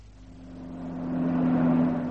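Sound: car driving off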